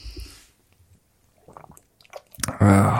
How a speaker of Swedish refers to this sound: Jag dricker vatten. Ja, du dricker vatten.